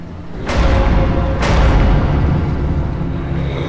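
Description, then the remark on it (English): Two heavy, booming thuds land about a second apart, like something pounding hard on a door, over a continuous low rumble. No one speaks. “As something pounded from the other side of the door, the dream god turned to the whale and spoke.”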